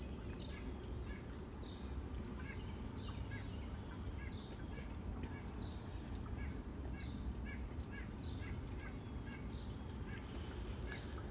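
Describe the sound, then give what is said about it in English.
Outdoor nature ambience with birds fluttering in trees and chirping in short repeated calls over a steady, high-pitched insect drone like crickets, continuous and fairly quiet, with no talking. “Hear the birds flutter and sing in the trees.”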